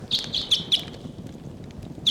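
Birds calling loudly, including decoy bird 749, on October 11 in the p.m.: four quick, high-pitched chirps in rapid succession, a pause, then another sharp chirp, over a steady low rumble of wind.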